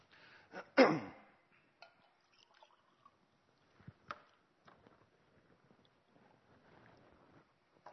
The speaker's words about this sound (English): And I would have loved, to be honest, at that stage, excuse me, to be able to, excuse me, let me just take some water.